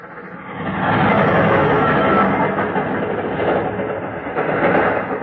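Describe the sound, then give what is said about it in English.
A train rumbles past a deserted level crossing, a loud, steady roar of wheels clattering on rails that swells after the first second and holds for several seconds, with no voices. “It was the train that gave me the idea.”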